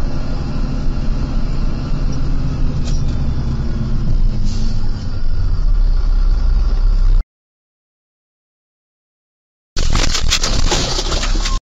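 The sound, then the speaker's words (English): Police pursuit footage in Niagara, Wisconsin: loud, rumbling vehicle noise from a garbage truck engine fills the first seven seconds, then cuts to silence before an abrupt, harsh burst of road noise returns, with no one speaking. “I do want to cover this guy that's running from the police, and he kills himself and crashing into a garbage truck during a brief pursuit.”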